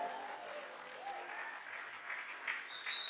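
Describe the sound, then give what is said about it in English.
An audience claps steadily for about three seconds, a dense, even wash of many hands, with a few faint high tones and murmurs mixed in. “If you clap, yours is coming. The better you clap, the better the favor.”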